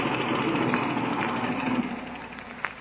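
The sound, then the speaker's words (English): An airplane engine idles with a steady, droning rumble, moderately loud, holding an even pitch throughout with only slight fluctuations, as the plane is eased forward past a tree trunk before the engine is cut; no voices are heard. “Then I'll cut the engine.”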